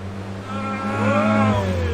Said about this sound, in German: Achtung, wilder Auspuff.